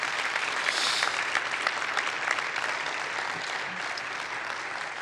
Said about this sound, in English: So can we give them a round of applause for being here?